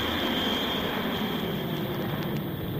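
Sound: plane taking off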